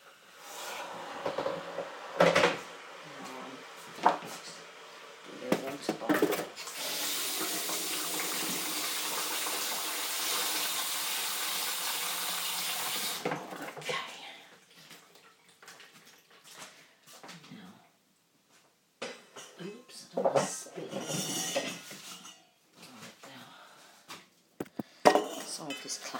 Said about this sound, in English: I think that'll be hot enough to warm up the cup now, so I'm just going to do that. Put it back on to boil in a minute.